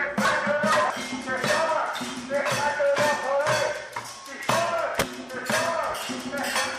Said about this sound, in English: He's beating a pot.